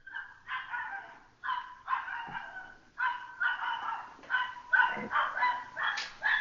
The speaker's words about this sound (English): there's a dog outside singing. Let me sing you the song of my people. No, because So. it was actually on beat. It was so funny.